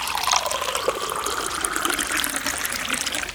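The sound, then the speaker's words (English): Hot water pours steadily into a cup for hot chocolate, a continuous splashing stream whose tone rises as the vessel fills, lasting a few seconds with no voices. “Ah, the hot water is ready. Now, for some hot chocolate.”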